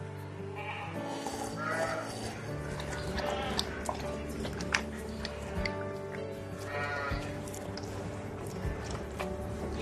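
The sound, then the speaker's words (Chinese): Goats bleat repeatedly in overlapping calls, several animals, over a steady low hum and rustling background on a small goat farm in the Lofoten Islands, Norway, where goats are raised and milked the traditional way, with no clear talk. “远离城市的喧嚣与现代工业的科技与狠活，用最传统的方式养山羊、挤羊奶。”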